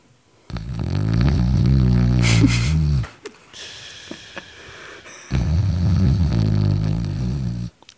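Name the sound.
voice imitating loud snoring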